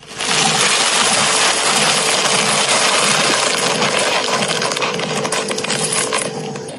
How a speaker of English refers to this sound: That's someone just pouring their breakfast cereal out of the box.